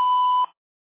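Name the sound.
call screening prompt beep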